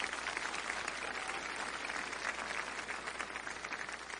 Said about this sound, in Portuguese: Quem pode aplaudir a Deus e bradar de vitórias?